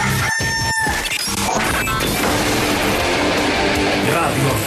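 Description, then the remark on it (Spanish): A loud rooster crow, the 'El gallo de Radioactiva' segment call on Colombian rock radio station Radioactiva, rings out at the start, quickly swallowed by a dense, crashing burst of loud music and noise that fills the rest of the moment. “El próximo lunes estaremos de vuelta con el gallo de Radioactiva y conoceremos ya cuál será el nuevo campeón del fútbol colombiano.”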